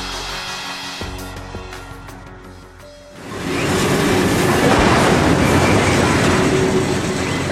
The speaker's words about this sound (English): Sound of a train headed north there through Mexico from the 2009 documentary, Which Way Home?